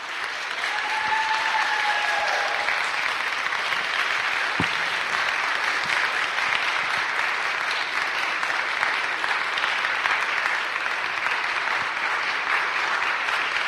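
Sustained applause from a large audience giving a standing ovation to honor two people, a dense, steady wash of clapping that holds at full strength for over ten seconds, with a brief whistle near the start.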